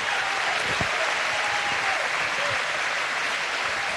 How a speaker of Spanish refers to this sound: Y quiero felicitar a todo el equipo, que veo varios por ahí, que me han acompañado estos 4 años de gobierno, que realmente han puesto mucho corazón, mucho amor, mucha dedicación. Así que también un aplauso para todos ellos, por favor.